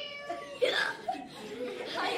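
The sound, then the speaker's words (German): A cat meows a few times in short, wavering cries, clear, with other faint sounds in the background. “Aber ich hab's doch gerade laut und deutlich miauen gehört.”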